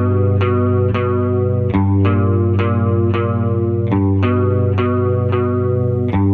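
A band plays a song: full, sustained chords struck in a steady, even rhythm, with a shimmering, effects-heavy guitar tone. The music is loud and purely instrumental, with no singing or talking.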